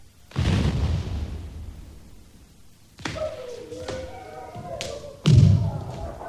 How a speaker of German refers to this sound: Eine Bombe? Runter, Mann. Das ist doch eine Bombe. Nein, das sind Schüsse. Das sind Schüsse.